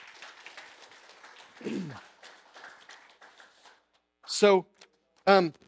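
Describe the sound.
A crowd claps in a steady, moderate wash of applause for several seconds, fading out before a person's voice breaks in with two short, loud exclamations.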